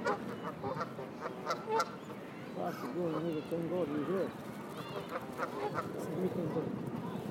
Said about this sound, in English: You know, that's a goose making that noise. They're the Canada geese. They're very noisy.